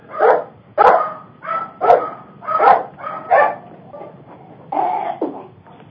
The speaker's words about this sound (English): Sorry about that. Dog wants to get on the show there. Excuse me a moment.